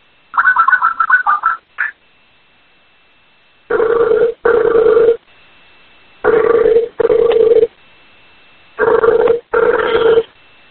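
A Skype outgoing call ringing tone: a brief chirpy connecting sound, then three evenly spaced double rings with quiet pauses between them. Clear, no voices; the call goes unanswered.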